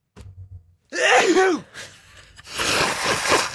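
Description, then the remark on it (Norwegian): A loud, violent sneeze bursts out after a short intake of breath, followed by a rough, breathy exhale and rustling noise. No one speaks. “Jeg må innrømme at hvis jeg tror at ingen hører på, så kan det nys altså noe så voldsomt.”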